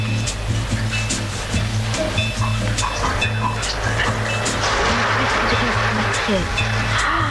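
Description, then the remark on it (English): A shower runs at full flow, a steady, dense hiss of spraying water that continues throughout, with a low hum and faint voices underneath. “Let's try the shower. Can you turn it full on?”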